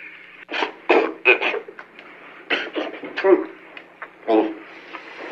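Someone coughs and clears their throat in a series of short, rough bursts spread over several seconds, with a faint steady hum underneath.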